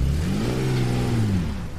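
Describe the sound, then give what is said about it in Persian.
A Porsche's engine revs up as the car is brought round in a yard, holding a steady, rising drone before easing off, loud, with no voices over it. “ماشینو براش میارن.”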